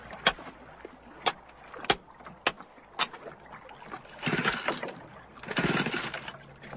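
A small boat motor with water in the engine, after the boat was rocked, sputters and coughs, giving a few sharp, uneven pops before catching in two brief, rough bursts of running noise that quickly die away.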